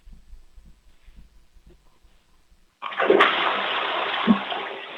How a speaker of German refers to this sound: Wow, das ist ja eine tolle, laute Klospülung